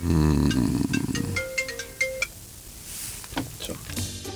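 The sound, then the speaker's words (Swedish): A mobile phone not set to silent plays its ringtone loudly, a bright electronic melody of short tonal notes that fades out after a couple of seconds, followed by faint clinks and quiet background noise. “Mobil på ljudlös? Ja, det vet jag fan.”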